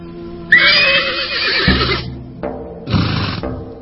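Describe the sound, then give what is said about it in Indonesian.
A horse neighs loudly and shrilly, a long quavering whinny that breaks off, followed after a short pause by a second, briefer whinny. No one speaks. “Sebuah gerobak kuda sudah disiapkan di halaman yang banyak ditumbuhi pohon tanjung serta nagasari.”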